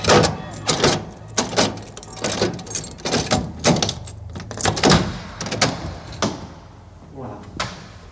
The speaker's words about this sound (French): Mais combien vous avez fait de tours? Pour fermer la porte complètement, il faut faire avant, 3, et puis 6.